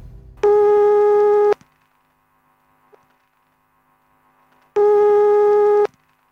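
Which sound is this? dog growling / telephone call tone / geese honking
telephone call tone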